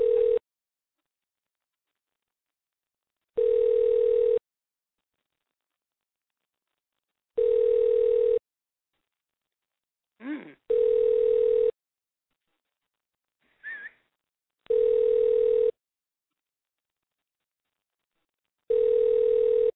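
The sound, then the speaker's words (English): A telephone ring tone, a call put through to room 112 at the Beach House, sounds in six steady, even bursts about a second long, spaced roughly four seconds apart, with a couple of brief chirps in the gaps and no talking. “Phone. Interview time, buddy.”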